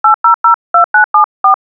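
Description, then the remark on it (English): A telephone number being dialed by DeadTalk speech software: eight short, clear dual-tone touch-tone beeps in quick succession, grouped in threes with brief pauses, loud with no voices. “Dial telephone numbers”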